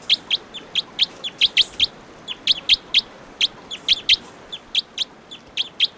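A bird, logged as bird 714 of type 2, calls over and over with short, high-pitched chirps, delivered in quick uneven bursts of two or three notes against a soft, steady background hiss.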